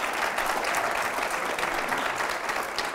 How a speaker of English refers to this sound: Go ahead, give God a hand clap.